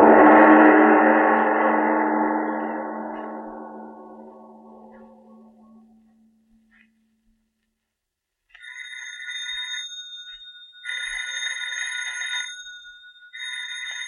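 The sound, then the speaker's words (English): In the radio drama Lights Out, a decaying, resonant musical chord fades into silence, then a telephone rings in three bright, buzzing bursts with short pauses, fairly loud, with no voices. “Miss Goddard, answer the phone, please.”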